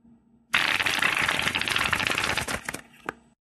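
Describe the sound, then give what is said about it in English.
Rapid crisp riffling of playing cards shuffled with one hand off the back of a cat's head, a dense flutter lasting about two seconds, then a couple of sharp snaps as the cards settle. “shuffling with one hand off the back of his cat's head.”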